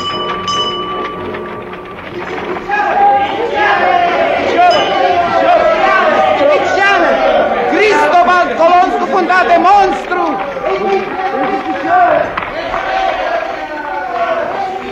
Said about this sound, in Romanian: Mulțimea se îmbulzește în jurul vânzătorului de ziare. Ce-or fi discutând cu atâta aprindere?